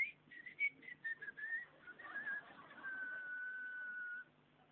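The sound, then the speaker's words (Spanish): A high, thin whistle from a Japanese sponge squeezed while dry: several short wavering chirps, then one long steady tone that stops abruptly. It's clear, with no talking. “Usted cuando no tiene agua la esponja, si usted la aprieta, la esponja hace.”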